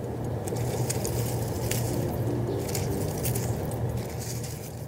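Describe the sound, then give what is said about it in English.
Leaves rustle outdoors in a steady, dense wash of dry crackling, with brief brighter bursts scattered throughout over a constant low rumble, continuous for the whole stretch with no voices. “That's actually the sound of leaves rustling.”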